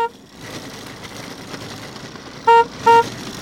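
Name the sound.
car horn honking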